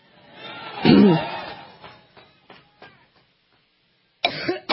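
A loud cough bursts out near the start, followed by a few fainter throat-clearing coughs that trail off, then a short burst of another sound at the end.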